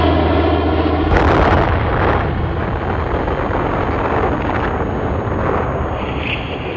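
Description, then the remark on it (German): A low droning hum gives way to an enormous atomic bomb explosion, the bomb dropped by an American aircraft on Hiroshima in August 1945. A dense roaring rumble keeps churning loudly for several seconds without fading. “August 1945 warf ein amerikanisches Flugzeug eine Bombe auf Hiroshima ab und machte die Stadt damit für den Feind unnutzbar.”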